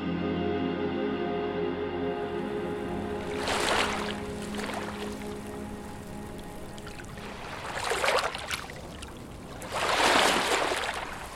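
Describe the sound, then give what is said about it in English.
Water sloshes and splashes in a few broad surges over a steady low drone, like water moving against a boat, with no one speaking. “wove together recordings they collected with Native languages, water sounds, and conversations.”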